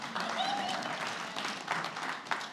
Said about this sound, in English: All right, you can clap for that.